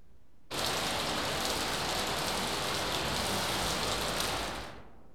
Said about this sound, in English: Rain.